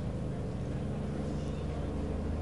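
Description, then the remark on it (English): A plane flies overhead during a baseball game, with a steady, rumbling engine drone. The low hum holds even and fairly loud for the whole stretch, with no break or change in pitch. “You can hear the planes flying right above us.”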